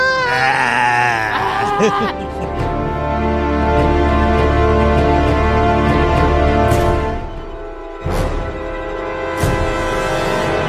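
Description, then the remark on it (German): A goat lets out a loud, wavering bleat, followed by more strained, drawn-out bleating cries over a dense background for several seconds. “Oh, ich liebe die Ziegen.”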